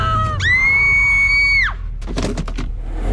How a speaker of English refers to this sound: Abruptly, one of the girls shrieked. Look out!